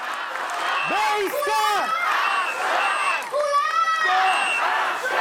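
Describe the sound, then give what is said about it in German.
A large protest crowd shouts in unison, many voices rising and falling together in loud, rhythmic bursts, chanting a slogan whose start is called out by a speaker and finished by the crowd. “Er hat den Satz angefangen und die ganzen Menschen im Publikum haben den dann zu Ende geführt.”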